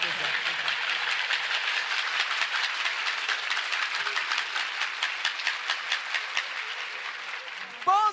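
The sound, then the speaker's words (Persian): A crowd claps together as if crying, in a steady, slow mourning rhythm, dense and continuous for several seconds, with a voice briefly rising at the very end. “مثل گریه کردن کف بزن.”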